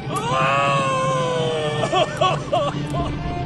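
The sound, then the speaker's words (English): Doc Tanner, a man, lets out a loud, drawn-out scream that holds steady for nearly two seconds, then breaks into several shorter, wavering cries over a low background rumble, waking five people sprawled around the Matran's chamber. “And Doc Tanner's screams woke the other five people, who lay sprawled around the Matran's chamber.”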